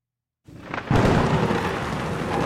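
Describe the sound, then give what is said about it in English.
A thunderstorm bursts in after a brief silence, with a deep rumble of thunder swelling and then holding as a loud, steady roar of rain and wind. “For the rest of you, follow me into the storm.”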